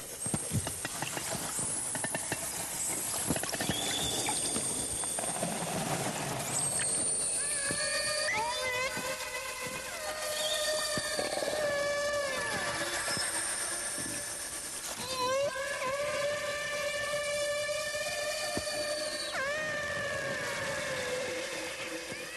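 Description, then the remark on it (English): Calls of two whales from the same pod trying to locate each other: a long sequence of tonal, harmonic cries that rise, fall and repeat, the two voices trading wavering calls back and forth until they come together, with no talking. “This is a sequence of songs where 2 whales from this pod are trying to locate each other, and they eventually come together.”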